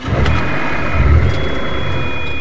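A car engine rumbles loudly, swelling briefly as it revs about halfway through, with a faint steady whine above the low growl and no voices.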